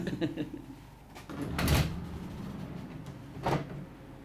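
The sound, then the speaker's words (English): The heavy door of a big walk-in freezer in a predatory bird monitoring archive is pulled open with a loud whooshing thud, followed a couple of seconds later by a second broad rush as the seal releases. “Another big freezer with another heavy door.”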